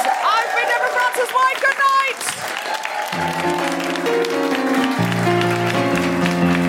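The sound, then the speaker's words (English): An audience applauds the performers at the close of the show Global Pitch, a dense rush of clapping. A voice speaks over the start, then sustained keyboard chords come in beneath the applause. “Please give it up for”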